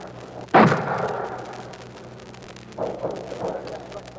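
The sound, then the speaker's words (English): Mortar shells hit: one loud, sharp blast with a long rumbling decay, followed a couple of seconds later by two weaker, muffled impacts. “Hear the mortar shells hitting.”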